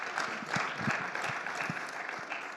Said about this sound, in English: So that means, thanks to you, we ended our year with a surplus. Praise God. How about that? Now listen, someone start to applaud that. You can applaud. It's okay to applaud that. You can applaud that.